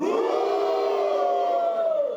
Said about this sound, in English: Men, on the count of three, give me a roar. One, two, three.